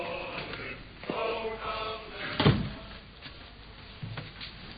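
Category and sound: household object, door being shut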